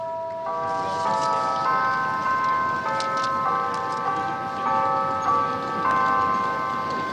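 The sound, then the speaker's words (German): A melodic chime of the bells in the small tower of Shibuya Station in Tokyo, Japan, rings out at 5 p.m. to mark rush hour, in a steady sequence of clear tones, sustained and ringing over a dense background of city crowd noise and traffic in the Shibuya shopping district. “Die Glocken im Türmchen der Shibuya Station läuten um 17 Uhr die Stoßzeit ein.”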